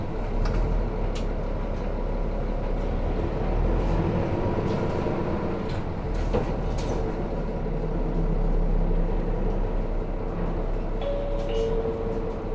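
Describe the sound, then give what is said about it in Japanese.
Inside a Toei city bus in Tokyo, bound for Ichinoe Station, as it pulls away and drives on: a steady engine drone and road rumble, with faint rattles and a rising whine from the motor, no one talking. “毎度、都営バスをご利用いただきありがとうございます。”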